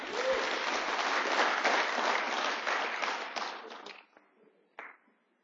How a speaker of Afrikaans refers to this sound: Geef hulle allemaal 'n hande klap asseblief.